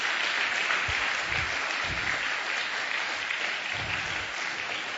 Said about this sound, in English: Give all the fathers a big clap hand. Honor them and bless them.